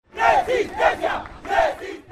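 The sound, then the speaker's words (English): A march of more than 10,000 protesters at the Alternative People's Summit during the Summit of the Americas chants in unison. Loud shouted phrases rise and fall in a steady rhythm, repeating about three times over a dense murmur of many voices. “The Alternative Summit featured two full days of conferences and culminated on Saturday in a more than 10,000 people strong march, complete with police prepped in riot gear and helicopters flying overhead.”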